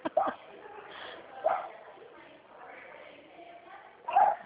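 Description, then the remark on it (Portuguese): Dogs bark in a few short, separate bursts, one near the start, one a second later and a louder one near the end, over a steady muffled background hum. “Olha os cachorros”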